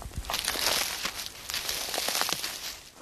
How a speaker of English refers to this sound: We continue in silence, hearing the crunch of leaves beneath our feet and smelling the wafts of rosemary and thyme set off by our touch.